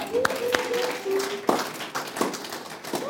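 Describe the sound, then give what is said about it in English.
A crowd of fathers claps their hands for themselves on Father's Day in a steady, dense burst of applause, with a few sharp louder claps and faint cheering voices rising through it. “Please clap hands for yourselves, fathers.”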